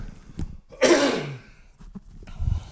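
One loud, raspy throat clearing bursts out for about half a second, then fades into faint breaths and small mouth noises, with no talking.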